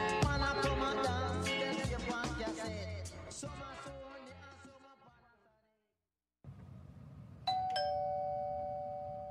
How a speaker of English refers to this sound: The sound of this doorbell may seem pretty ordinary to you,